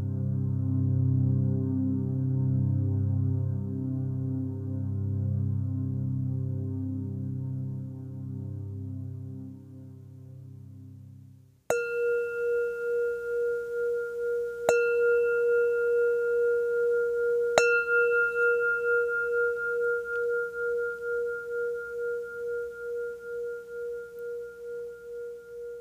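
meditation bell ringing

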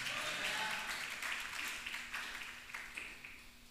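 applause

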